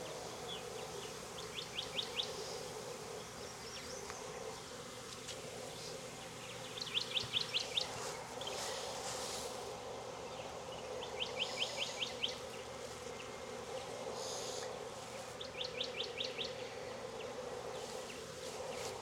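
A dense, steady hum of many gentle bees crawling around a beekeeper who is separating an old hive and a new hive with an excluder and honey frames, with a few brief chirping bird calls repeating in short bursts over the buzzing drone.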